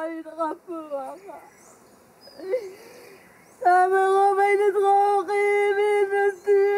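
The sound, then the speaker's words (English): A grieving woman on a hill cries: a few short, broken sobs at first, then long, loud, sustained wails that waver in pitch, with no talking. “When she stopped crying, she led us back down the hill to a little faucet where we washed the dirt off our hands.”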